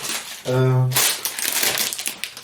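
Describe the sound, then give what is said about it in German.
A pre-packaged bag of whole, unroasted Californian almonds crinkles and rustles in loud, uneven bursts for about two seconds, just after a brief low hummed voice tone. “Aber das knistert jetzt schön, ne?”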